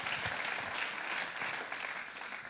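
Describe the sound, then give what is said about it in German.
An audience in Reutlingen claps steadily, a dense wash of many hands applauding at an even, sustained level for a couple of seconds with no voices standing out. “Herzlichen Applaus.”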